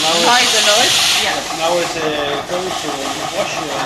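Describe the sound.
A robotic milking machine on a farm, equipped with lasers and digital cameras, runs with a loud, steady pneumatic hiss that eases after the first second or so, leaving a continuous mechanical whir with indistinct voices murmuring underneath.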